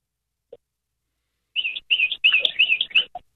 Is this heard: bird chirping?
yes